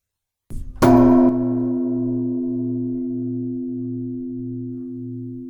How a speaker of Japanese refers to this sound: 最後に徳有寺の鐘の音をお聞きいただきましょう